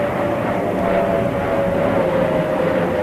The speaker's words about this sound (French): En phase d'atterrissage, 60% du temps, on a les avions directement au-dessus de la maison.